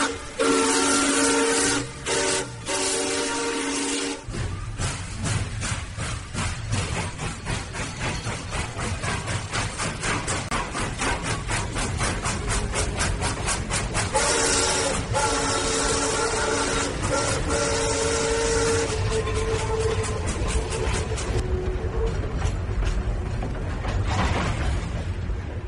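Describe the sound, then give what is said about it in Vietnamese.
A train rumbles steadily along the tracks with rhythmic clattering, punctuated by loud steam whistle blasts near the start and middle, sustained without talk. “Trời ơi, sợ tàu hỏa chạy sóc thế nhở?”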